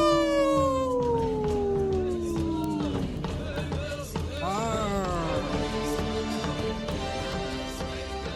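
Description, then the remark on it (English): A dog named Misko howls in long, sliding wails that drop in pitch, then rise and waver again, loud, with the Native Roots Radio hosts howling along beside it. “Thank you, Misko, for jumping in and howling with us.”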